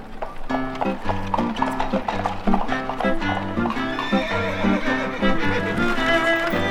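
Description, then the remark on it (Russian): A luxurious horse-drawn carriage rolls up to a hotel with hooves clip-clopping in a steady rhythm, and a horse whinnies amid the clatter, fairly loud throughout. “а к гостинице подкатила роскошная карета.”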